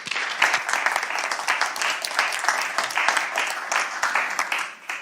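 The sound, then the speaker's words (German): Steady audience applause for speaker Matthias Schulze fills the room, dense overlapping claps sustained at an even level for several seconds before tapering slightly at the end. “Bitte eine schöne Runde Applaus für Matthias Schulze.”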